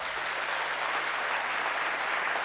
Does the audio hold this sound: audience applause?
yes